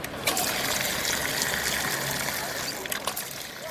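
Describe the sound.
A small fountain, the Font de Canaletes on the Rambla de Canaletes beside Plaça de Catalunya in Barcelona, splashes steadily, a continuous bright patter of falling water with faint murmuring voices mixed underneath.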